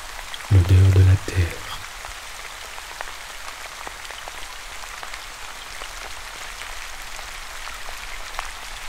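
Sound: rain falling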